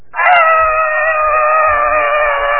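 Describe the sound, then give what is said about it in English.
A person's voice imitates a pig squealing as it goes through a fence to get corn: one loud, high, strained squeal that starts abruptly and holds steady for over two seconds, with no talking. “So he'll start squealing here.”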